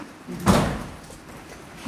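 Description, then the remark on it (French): A single solid clunk of the cancer registry door on level 1 of the CHU hospital in Pointe-à-Pitre, Guadeloupe, being unlocked with a key and opened, fairly loud, its sound fading quickly into quiet with no one speaking. “Et là, on arrive niveau 1 et une porte registre Guadeloupe dont vous avez la clé.”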